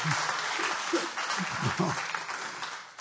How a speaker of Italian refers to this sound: E poi facciamo un applauso al nostro ospite, che adesso verrà. Un piccolo applauso, perché si lamenta.